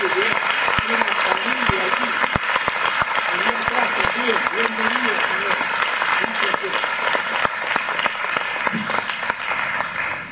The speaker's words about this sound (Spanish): A ver, por favor, póngase de pie para que le conozcamos. y le brindemos un fuerte aplauso. Bienvenido.